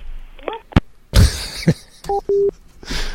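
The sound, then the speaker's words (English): A phone handset clacks down as a phone call is hung up, with a few sharp clicks and thumps, then two short electronic tone beeps sound, followed by a faint hiss. “It's like, what the? Click.”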